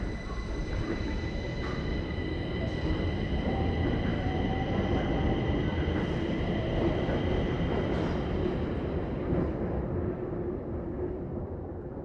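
A subway train rumbles steadily and loudly through a metro station, a high metallic whine riding over the deep roar, easing slightly toward the end, with no voices.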